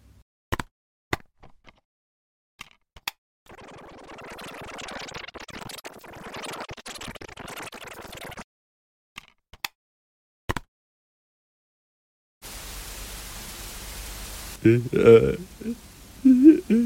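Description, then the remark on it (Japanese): A reversed cassette recording: sharp isolated clicks and pops, then several seconds of garbled, backward-sounding murmur, more clicks, and a burst of tape hiss ending in distorted, unintelligible vocal sounds. “こちらが逆再生されたカセットテープの音源である。”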